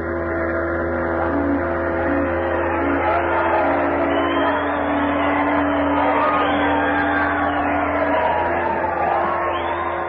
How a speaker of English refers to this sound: There was shouting and rejoicing. There was singing and laughter.